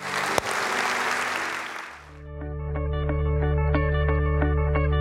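A church audience at Victory Family Church claps loudly and steadily for about two seconds, then the applause fades as sustained, bright keyboard music with a low droning bass takes over.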